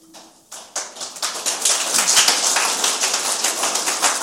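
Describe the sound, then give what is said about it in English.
An audience breaks into applause, a few scattered claps swelling within a second into dense, steady clapping that stays loud to the end, with no voices over it. “Don't clap. It hasn't happened yet.”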